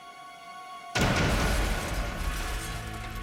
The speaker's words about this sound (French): L'explosion blessa gravement l'assistant et fit exploser les tympans de McConnell.